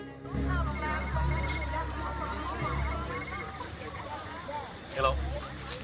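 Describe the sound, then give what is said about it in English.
A mobile phone ringtone chirps in repeated melodic bursts as a man on a busy street at night answers it, over a low rumble of busy street noise and murmuring voices in the background. “He looks ahead intently and approaches a clothed man who answers his mobile phone.”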